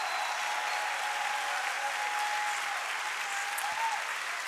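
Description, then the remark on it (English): A church audience applauds its fathers on Father's Day, clapping steadily for several seconds, a dense, even patter of many hands clapping at once with no voices standing out. “Guys, that's all you get is a little of applause on Father's Day.”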